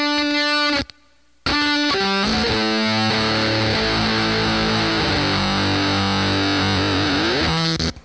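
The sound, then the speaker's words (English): A loud, buzzy fuzz guitar played through a Montreal Assembly Your and Your fuzz pedal, with a synth-like, very gated tone, plays a run of sustained notes and bends, cutting off abruptly into near-silence for a moment before the thick, gated sound slams back in. “There's the mysterious Montreal Assembly Your and Your, which is a very synthy sounding fuzz that's very gated.”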